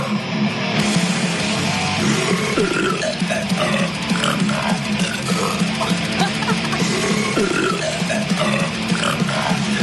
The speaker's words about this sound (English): Since the name of the stuff is called Liquid Death, they use a little death metal, and they used a lot of people burping.